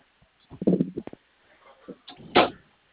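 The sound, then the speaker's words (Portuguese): A door is handled and shut during a phone call: a cluster of low thumps and rattles, a pause with faint shuffling, then a sharper, louder bang as it closes. No one speaks. “Deixa eu fechar a porta aqui, estou vendo barulho aqui.”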